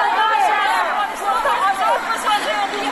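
A small group of women protesters shouting their demands in the street in front of the Arg at Zanbaq Square, chiefly calling for release of the frozen reserves of Afghanistan's bank; many high-pitched voices overlap into a loud, continuous roar of chanting and calling with no single voice standing out.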